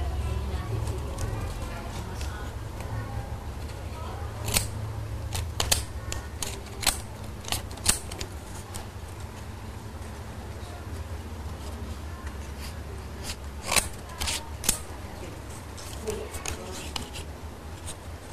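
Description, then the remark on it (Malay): Scissors snip repeatedly, making crisp, irregular clicks over a steady low background hum, with soft voices faintly present. “Terus tangannya kedua gunting. Ini Hani, tapi harus hati-hati ya.”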